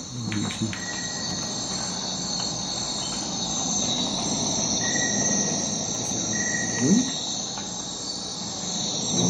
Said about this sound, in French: Et alors si on écoutait juste cet extrait, donc on met dans la forêt de Guyane la nuit, hein, c'est ça? C'est ça, la forêt de Guyane la nuit.